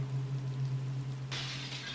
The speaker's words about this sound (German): Zerbrochenes Glas, würde ich sagen.